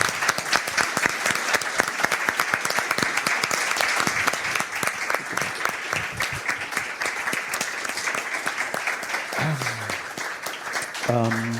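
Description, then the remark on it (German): Steady, loud audience applause for a helper invited onto the stage, with dense clapping throughout, continuing for the full length, with a brief voiced sound rising near the end. “Wenn sie denn möchte, dann gerne hier auf die Bühne, sonst einfach so einen Applaus.”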